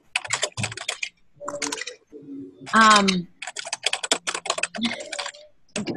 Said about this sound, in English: Your keyboard is kind of loud.